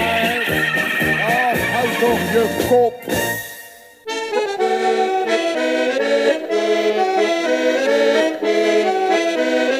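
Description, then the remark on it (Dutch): A horse whinnies loudly for a few seconds, its wavering, quivering cries rising and falling, before a full band of music with steady sustained tones takes over. “Er staat een paard in de gang.”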